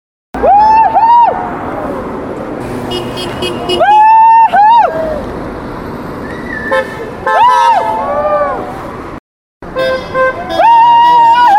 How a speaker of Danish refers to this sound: Ja, det var forsvarets bil, der dyttede.